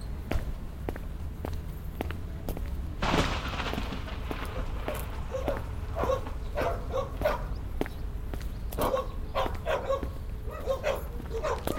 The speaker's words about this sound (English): Dogs are barking somewhere.